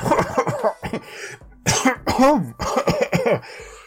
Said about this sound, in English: … looks like he's having a coughing attack, but is clearly hiding a laugh.